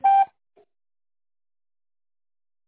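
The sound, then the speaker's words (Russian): A single short telephone signal beep on the phone line of the Zasport company office, the signal to dial an extension number in tone mode: a steady mid-pitched tone with bright overtones, followed by a tiny faint blip and then silence. No one speaks. “Наберите добавочный номер в тоновом режиме после сигнала или дождитесь ответа оператора.”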